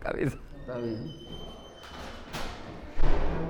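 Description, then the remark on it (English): A couple of heavy doors slam in a stairwell amid murmuring, indistinct American voices echoing down the stairs, the louder bang arriving near the end, with a lingering echo around the impacts. “Doors slam, and American voices echo down the stairwell.”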